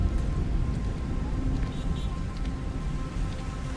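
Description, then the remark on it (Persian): Steady rain falls throughout, a dense, even hiss with a low rumble beneath it. It stays constant, with no clear individual drops standing out. “امیر زیر بارون راه میره و سیگار میکشه.”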